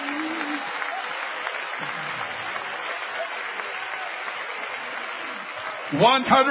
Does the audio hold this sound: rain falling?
no